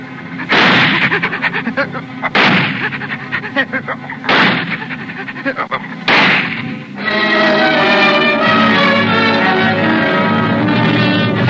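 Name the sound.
gunshot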